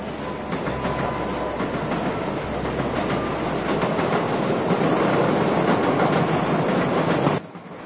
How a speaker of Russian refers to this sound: Поздний вечер. Станция метро. Всюду полированный камень.